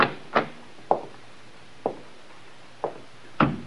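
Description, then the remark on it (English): A library door being opened: a handful of short clicks and knocks from the latch and handle, spaced irregularly over a few seconds, fairly quiet with no voices. “This must be the library. Try the door,”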